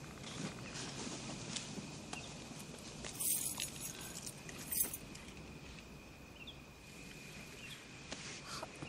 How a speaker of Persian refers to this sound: آه میتونی از هر کفتی میخوای دفاع کنی، ولی من کلیداتو میگیرم.